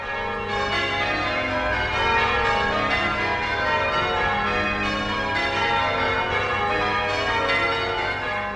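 cathedral bells ringing

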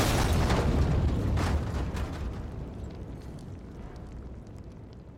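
explosion

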